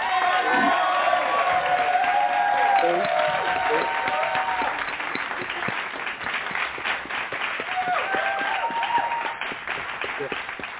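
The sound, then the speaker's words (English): An audience applauds warmly to welcome a woman coming up to lead an evening Bible lesson: dense clapping mixed with scattered cheers and voices calling out, steady for several seconds before gradually thinning. “So we're going to welcome her with a hand clap praise.”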